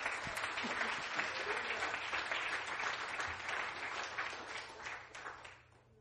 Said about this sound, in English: Clap your hands.